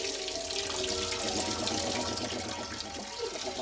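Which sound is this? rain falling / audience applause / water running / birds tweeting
water running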